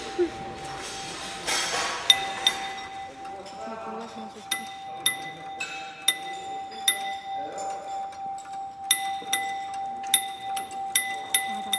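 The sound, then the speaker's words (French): Chimes (carillons) of a student-built sound machine clink and ring in an irregular, overlapping patter of bright, high tones, some strikes sharper than others, over a steady pitched hum and a faint murmur of voices. “En fait, on s'est lancé dans plusieurs machines, donc les carillons.”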